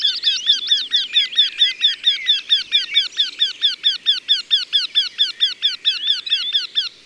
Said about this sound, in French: Ça, c'est un torcol. Son chant n'est pas compliqué. Quin, quin, quin, quin, quin, quin, quin, quin, quin, quin. Et ça fait du bruit pour un oiseau à peine plus gros qu'un moineau.